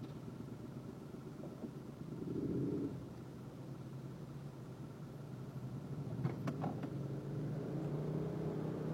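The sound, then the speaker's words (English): A bus engine rumbles steadily in traffic, a low continuous drone that swells briefly early on, with a few sharp clanks partway through and no voices. “This bus is ruining traffic in a spectacular way.”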